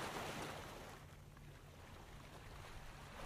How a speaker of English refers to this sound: The moment's quiet. The sea doesn't move for what feels like an eternity. And one wave kind of rushes in.